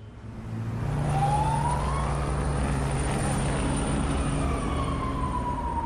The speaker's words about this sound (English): A police car speeds out of the temporary police station in Dipsluit.